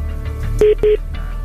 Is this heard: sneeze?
no